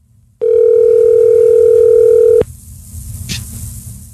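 A loud, steady telephone dial tone hums for about two seconds, then cuts off with a click, followed by faint line hiss and a single brief dialing beep, as a phone call is being placed.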